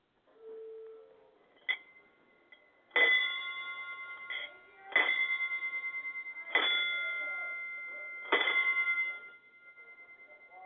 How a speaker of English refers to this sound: Okay, can you actually ring it a little bit quicker? Cause it's because the pause in between the rings is messing up my equipment. But can you do like ding, ding, ding, ding, ding for like 10 seconds?